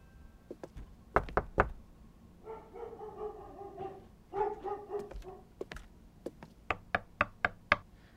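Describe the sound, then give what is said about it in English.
Sharp raps on an apartment door come in a quick burst of three, then a steadier run of five later on, with a dog's drawn-out barks or whines sounding in between. “Is your plan just to knock on every door until we find them?”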